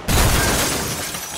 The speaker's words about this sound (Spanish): El sonido del choque fue como una explosión. Pedazos de vidrio y sangre volaban a mi alrededor, al mismo tiempo que mi cabeza golpeaba el techo, luego los asientos, la puerta y, por último, el mundo dejó de girar.